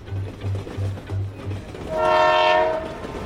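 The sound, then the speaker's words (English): A train rolls past with a steady, low clickety-clack of wheels, then a loud, sustained horn blast sounds and fades slightly at the end. “"All aboard!" commanded Conductor Virginia as she helped the passengers load their luggage onto the magical Christmas train.”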